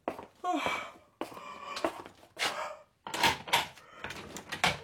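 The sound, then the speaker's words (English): An old, flimsy door rattles hard against its bolt in several rough, uneven bursts, fairly loud, with brief pauses between the shakes. “I put a bolt on it. These doors are so old and flimsy anybody could break in. The rattling noise is only a warning system.”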